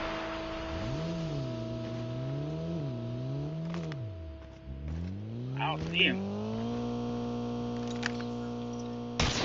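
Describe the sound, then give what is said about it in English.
A synthetic-sounding game car engine revs up and down, then climbs to a steady high whine as the vehicle speeds along, with brief sharp clicks and squeals over it. “I got in this car, I'm like, I'm fucking moving real quick.”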